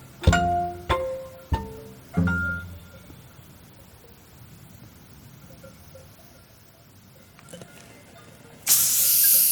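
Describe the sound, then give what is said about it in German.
A few bright, ringing glassy clinks, then a quiet pause before a sudden loud fizzing hiss as a bottle of tonic water is cracked open, carrying on to the end. “Tonic. Oh, Tonic sogar.”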